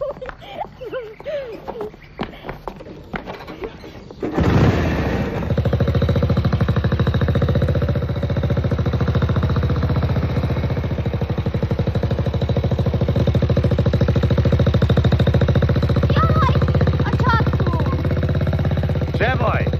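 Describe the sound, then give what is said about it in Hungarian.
After a few seconds of talking, a motorcycle engine bursts into life and settles into a loud, steady, throbbing rumble that carries on to the end, with voices faintly beneath it. “Jössze velem motorozni.”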